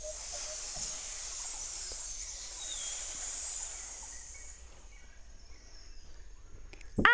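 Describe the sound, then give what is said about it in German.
Snakes hiss in two long, airy, high-pitched waves, the second swelling louder before both fade into quiet. A brief sharp noise cuts in at the very end. “Schlangen, schnell weg hier!”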